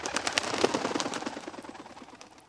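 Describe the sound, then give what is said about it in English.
A bird chirps in a rapid, steady series of short calls, clear at first, then gradually fading away; no one speaks. “It's a real bird.”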